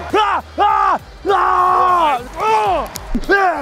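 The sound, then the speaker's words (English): A man bellows a hype battle cry, five loud shouts in quick succession, each drawn-out and strained, with the middle one held longest. “And then as I yell, I get myself more hyped.”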